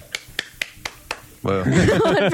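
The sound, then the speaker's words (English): One person claps five times in a quick, even rhythm, each clap sharp and crisp. Right after the last clap, voices start talking loudly. “One person clap. That was a vigorous clap.”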